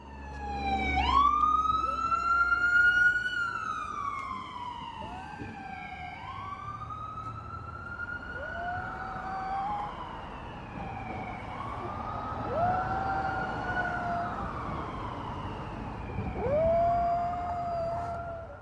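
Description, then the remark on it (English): A small Havanese dog howls along with a wailing siren, its repeated high, quavering howls rising and falling over the siren's steady sweeping tone for the whole stretch, with no talking. “You'll hear two sounds on this tape. One of the sound-making objects on the tape is my dog, and the other, well, it's easily recognizable.”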